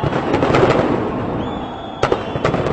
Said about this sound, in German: Zehntausende sind in das Zentrum der Hauptstadt Pristina gekommen. Freude, Lachen, Tränen und ein riesiges Feuerwerk.